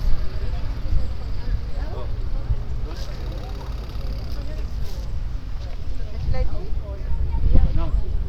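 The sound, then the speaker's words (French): A small steam-powered toy boat putt-putts with a steady low ticking rhythm, its steam pushing it along like a jet ski, heard amid outdoor background noise while voices talk intermittently. “Alors, le petit bruit qu'on entendait tout à l'heure, c'était un petit bateau qui marchait à la vapeur. Et ça fait toc, toc, toc, toc, toc.”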